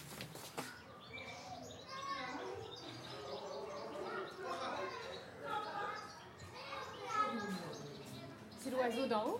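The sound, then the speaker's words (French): A bird sings overhead in a steady run of bright, warbling chirps that continue throughout, with people's voices talking at moments. “Il y a un oiseau en haut qui chante.”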